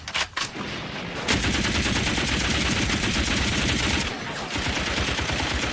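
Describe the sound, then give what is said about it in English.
Sustained automatic gunfire rattles in a rapid, continuous burst after the trigger is pressed, loud and dense, with a brief pause near the start and a slight dip before the firing resumes. “Push the boat forward twice. Again, Craig. Was noch? Rücken Sie ab zu nieder. Press the trigger.”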